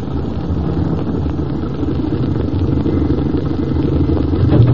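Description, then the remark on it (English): A car engine idles with a steady low rumble, fairly loud, swelling slightly toward the end as the vehicle rolls to a stop. No one speaks. “Go a little more, then stop. We'll walk the rest of the way.”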